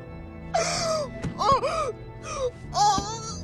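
Inconsolable weeping: a child's wailing sobs rise and fall in repeated pitched bursts, loud and strained, broken by short gasping breaths between cries.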